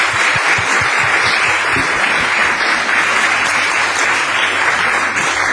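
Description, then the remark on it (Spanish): An audience at a panel event applauds steadily, dense clapping at a loud, even level for several seconds, with no one speaking over it. “Así que también darle las gracias a ella, y yo les pido un aplauso para ellas también para hacer.”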